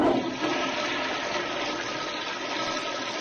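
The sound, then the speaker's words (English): A toilet flushes in one continuous rushing gush of water, loud and steady for a few seconds with no voices over it. “You did say flush. Yes, exactly. I knew that was coming.”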